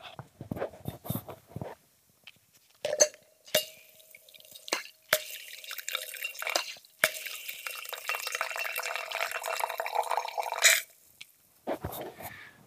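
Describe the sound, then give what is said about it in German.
A glass of red wine poured from a bottle through a Coravin preservation system: a few mechanical clicks, then a steady pressurized hiss and trickle of liquid lasting several seconds, ending abruptly. No one speaks. “Also ihr könnt, wenn ihr mit einem Cora Vin arbeitet, euch ein Glas von eurem teuersten Rotwein zapfen. Ich mach das mal und mach's mal so, dass ihr es hört.”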